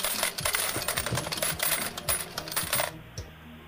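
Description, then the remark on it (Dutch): A rapid, continuous cascade of 40 coins clattering down into a metal tray as a prize payout, like an arcade machine paying out, bright and jangly for about three seconds before stopping with a final clink. “Want je hebt 40 muntjes.”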